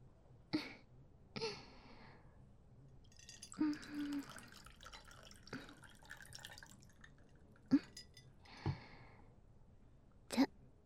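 Tequila is poured into a glass in a few short, quiet splashes, with brief glassy clinks and dripping sounds between pours. The sounds are soft, and no one speaks.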